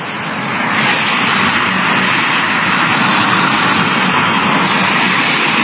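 A loud, steady roar of road traffic passing very close, a continuous wash of engine and tire noise with no distinct breaks and no voices.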